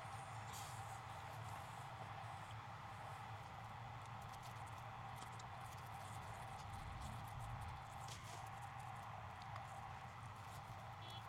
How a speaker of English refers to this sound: Oh, now the dump truck is coming out in this lane. We might have been waiting on that dump truck.